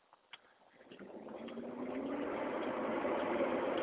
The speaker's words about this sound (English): Is it a garbage truck? No. Recycling truck, I guess. I'm walking past houses that have plastic recycling bins out front.